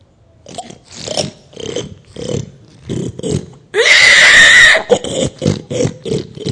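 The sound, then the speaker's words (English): A person imitates pigs, making a quick series of snorting oinks, then a loud, drawn-out squeal, followed by more rhythmic grunts. “You know how pigs are. They just don't care about who feeds them, do they? What do the pigs do?”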